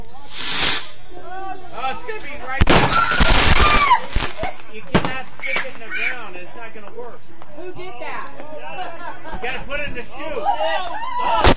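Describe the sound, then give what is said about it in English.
Fireworks go off with a loud hissing, crackling burst lasting about a second, followed by sharper pops, while excited voices and chatter rise and fall throughout. “Now, for the greatest freaking fireworks video ever.”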